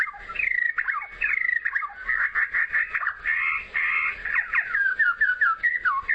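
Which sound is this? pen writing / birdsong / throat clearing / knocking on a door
birdsong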